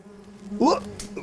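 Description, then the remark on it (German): Bees hum in a steady drone around pale pink lacecap hydrangea flowers, with a louder, rising buzz about halfway through as one passes near, then settles back to a softer hum. “Das waren jetzt Bienen. Die haben sich gerade die Blume genau angeschaut.”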